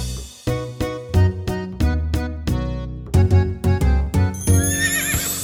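Hooves clip-clop in a steady, fairly loud rhythm, about a dozen hits, before a horse lets out a high, wavering neigh near the end. No one speaks.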